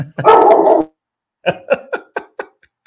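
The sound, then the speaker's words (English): A dog lets out one long, drawn-out bark, then after a short pause fires off five quick, sharp barks that gradually soften, with no talking. “What does the dog reckon?”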